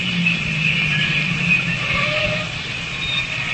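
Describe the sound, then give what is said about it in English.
A parked car's engine idles steadily at the corner of Warrenburg and Paoli Streets, a low continuous rumble with a faint higher whine above it, holding an even level throughout with no voices. “Leave the engine running.”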